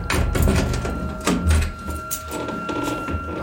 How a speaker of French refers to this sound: Le serrurier à l'œuvre, la porte s'ouvre.